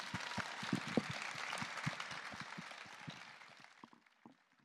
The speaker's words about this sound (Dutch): Mag ik dan ook vragen voor een groot applaus voor al onze gasten, voor de gemeente Groningen die het heeft georganiseerd, voor het Forum